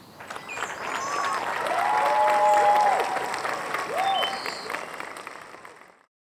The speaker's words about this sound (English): The entire group of Americans spontaneously clapped to his speech.